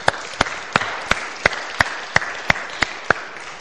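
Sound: audience clapping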